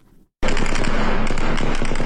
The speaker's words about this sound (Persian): امروز دوشنبه صدای تیراندازی پیام نیروهای دولتی به سوی معترضان در پیرانشهر در ولایت آذربایجان غربی شنیده شد.